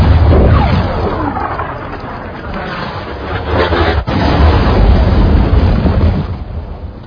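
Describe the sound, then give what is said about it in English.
A six-pound gun firing, heard as loud, deep rolling booms that merge into a continuous heavy rumble, with one brief break partway through. No voices are heard. “Six-pound gun.”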